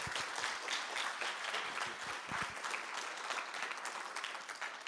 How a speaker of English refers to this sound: Give him a massive round of applause.